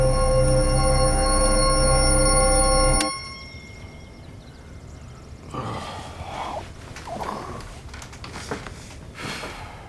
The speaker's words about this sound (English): Why do the bells keep ringing? What bell? The church bell? I don't hear anything. Seriously? You don't hear that? Seriously?